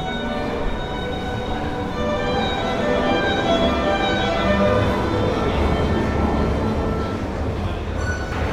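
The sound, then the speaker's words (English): Busy London tube station ambience in a tiled station: a steady, loud rumble of a train with a high tonal whine running through it, continuous for the whole stretch, with faint crowd murmur in the background. “Like, I'm surprised how good the street performers sound in the London subway.”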